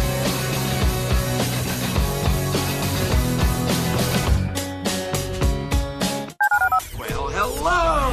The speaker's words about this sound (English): Dial the phone.